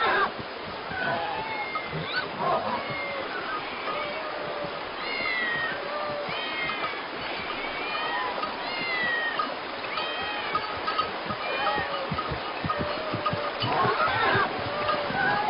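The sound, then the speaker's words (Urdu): A crowd of cats meowing over one another in an Egyptian city whose people worship the cat as the city's god, many overlapping high, wavering cries rising and falling continuously, with a busy murmur of background noise underneath. “یہ اتنی ساری بلیاں یہاں کیا کر رہی ہیں؟”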